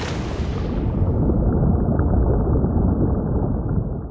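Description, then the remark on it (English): A steady, muffled underwater ocean rumble. It starts with a brief brighter wash, then settles into dense low churning and bubbling that stays constant and fairly loud throughout. “The sound of the ocean, both on the surface and below.”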